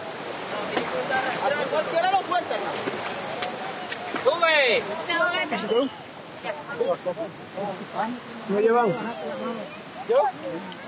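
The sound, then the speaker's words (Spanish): Steady rushing river water fills the background while several people shout and call out over it, their voices rising and falling, as a human chain of men holding hands pushes its way across the river. “Es una cadena humana de puros hombres agarrados de la mano, empujándose en los unos gatos cruzando el río.”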